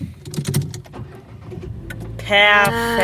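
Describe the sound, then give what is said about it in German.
A few faint clicks and rustles, then a car engine suddenly cranks and starts up, settling into a loud, steady whirring hum, in a live test of whether the car still starts. “Soll ich mal kurz machen, sollen wir mal einen Live-Test machen, ob das Auto noch startet?”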